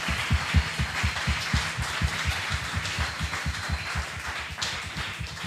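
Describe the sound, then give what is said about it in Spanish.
A crowd applauds steadily for several seconds for two boys visiting from a mountain community: a dense wash of many hands clapping at once with a fairly even loudness, and no voices rise above it. “den un aplauso a estos chicos que están con nosotros desde allá.”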